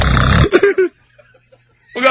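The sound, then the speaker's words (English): A voice imitates a woman's pig-like laugh: a loud, rough snort, then three quick grunting bursts, a short pause with faint breathy sounds, then another rising snort at the end. “Mommy sounds like a pig.”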